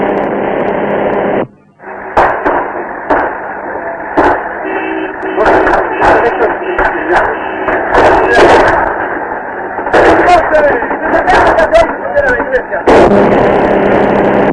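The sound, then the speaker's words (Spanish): Scattered gunshots fired into the air crack out irregularly, some in quick clusters, over a steady hiss of radio static, with faint muffled voices in the background; more than 2,000 shots have been fired. “Tengo fuerza aquí, se pasea más de 2.000 tiros, ya, cambio. A ver ese fuego que ha sido al aire, cambio.”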